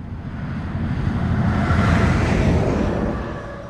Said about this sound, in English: Laramie, Wyoming is not the kind of place you just happen to pass through. On the surrounding highways, solitary cars and trucks zip by now and then.